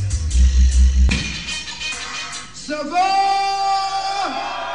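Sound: concert crowd cheering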